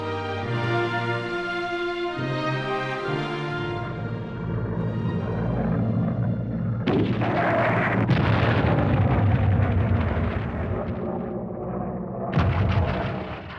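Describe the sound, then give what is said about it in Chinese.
A German air raid on Britain: a loud, steady droning roar builds into booming explosions and crackling gunfire, with a sharp burst of blasts near the end; no voices are heard. “希特勒毫不犹豫，立即向英国发动空袭。”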